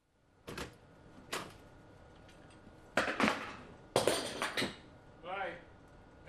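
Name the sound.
door opening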